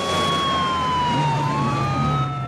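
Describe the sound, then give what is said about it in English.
Two police cars arrive at a fairground, their loud sirens wailing, the overlapping tones sliding slowly past each other over a steady roar of engines and traffic noise. “Two police cars roar into the fairground.”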